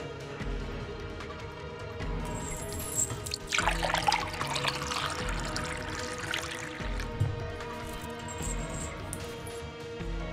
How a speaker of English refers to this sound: Here. I live to serve and pour your drink, my lord. What? I brought your stupid wine.